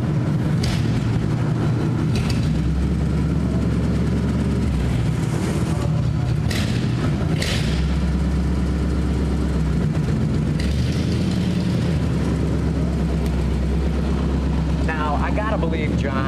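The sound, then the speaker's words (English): A flathead V8 car engine idles with a deep, steady, throbbing rumble as the car is slowly backed up in a museum, its low drone shifting slightly in pitch, with faint murmuring from a small watching crowd in the background. “You know, as good as it sounds just idling or, you know, backing up slowly here, you can only imagine what it must have sounded like.”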